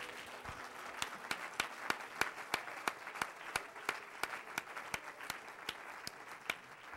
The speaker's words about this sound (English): Let's give Jesus a great big hand clap of praise.